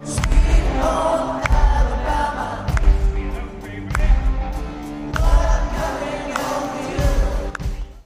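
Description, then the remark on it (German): A large concert crowd cheers and roars continuously after a song, with heavy, regular thumps every second or so cutting through the dense, loud noise. “Und da gab es extrem viel Jubel nach”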